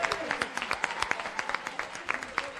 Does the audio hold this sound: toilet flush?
no